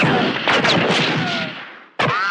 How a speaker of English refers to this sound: I could hear from behind the bar bullets flying thick into the walls and through the windows.